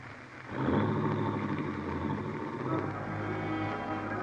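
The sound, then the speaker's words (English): Helen's car engine rises into a steady, low droning hum with a broad hiss over it, holding fairly loud as the car slips quietly down the road at night in driving rain. “You watch Helen's car slip quietly down the road.”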